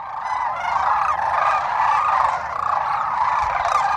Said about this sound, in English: There was these like spectacular cranes. They were so loud and beautiful.